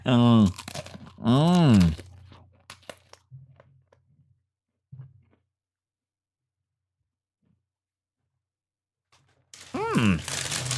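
Soft, sporadic crunching of pretzel sticks dipped in a ginger snap-flavored snack, a few brittle clicks and chews, framed by drawn-out humming vocal sounds at the start and end, then near silence.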